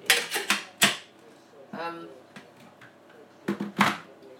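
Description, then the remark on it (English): Sharp clinks and clatters of a kettle lid being fumbled with and fitted in place by a blind person, several quick knocks in bursts with a short murmured voice in between. “So where's the lid of the kettle?”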